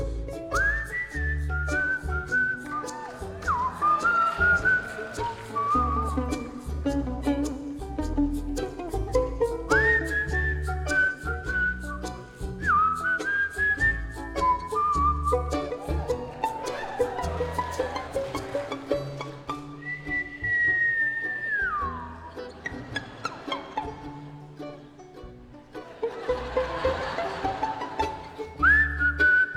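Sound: human whistling a tune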